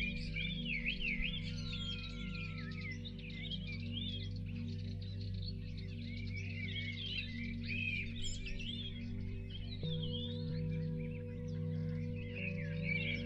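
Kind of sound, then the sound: bird, birds chirping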